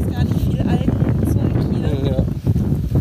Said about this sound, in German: Ja, und wie ihr hört, hier wird es sehr windig auf der Seebrücke. Ich bin jetzt echt froh über den Windbreaker.